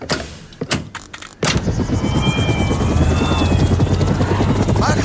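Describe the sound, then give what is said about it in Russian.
An old helicopter nicknamed Larisa Ivanovna roars up after a few sharp thumps, then settles into a loud, steady whine with rapid rotor chop as it builds thrust for an airplane-style rolling takeoff, lacking the power to lift off vertically. “Лариса Ивановна, дама пожилая для вертикального взлета. мощности не хватает. Вот тяги наберем и взлетим по самолетному.”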